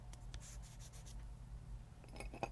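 Faint scratchy scraping and rubbing against a keyboard as gunk is picked out, ending in a few light clicks over a steady low hum, with no talking.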